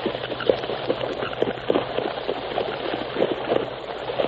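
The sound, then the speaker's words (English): Horses splash steadily across a ford of the Rio Grande into Mexico, a dense wash of churning water broken by irregular heavier splashes. It is moderately loud, with no voices. “Keep traveling across the ford.”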